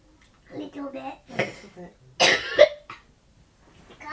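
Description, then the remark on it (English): A couple of harsh coughs burst out amid some murmured talking, the second louder and raspier, with a brief throaty sound trailing after. “you got a bit of a cough?”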